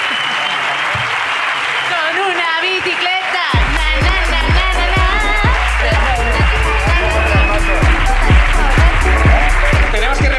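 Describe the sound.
A crowd bursts into loud applause after a few seconds of voices, settling into steady, rhythmic clapping with shouting and cheering mixed in throughout.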